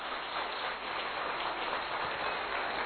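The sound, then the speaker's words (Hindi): A crowd applauds steadily, a dense crackle of many hands clapping at once that holds an even, moderately loud level throughout, with no voices breaking through. “और एक बार मैं पुनः आप सबसे रिक्वेस्ट करूंगा जोरदार तालियों के साथ।”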